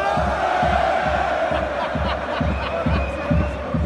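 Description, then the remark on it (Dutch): A dense crowd of football supporters roars and shouts continuously, with rhythmic thumping beats pulsing underneath and a few higher whoops rising above the steady din. “En dat vinden de supporters onder hem, zoals je kunt horen, ontzettend leuk.”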